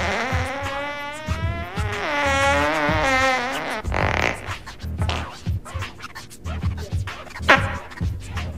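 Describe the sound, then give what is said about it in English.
A loud, drawn-out buzzy fart with a wobbling pitch lasts several seconds in a small room, then gives way to scattered scratchy rustling and soft clicks. “I did fart.”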